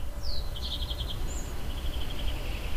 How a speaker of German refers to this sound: Für mich sind zum Beispiel gerade die Geräusche sehr präsent, da ich gerade auf der Terrasse sitze und die Vögel zwitschern und in der Ferne andere Geräusche zu hören sind.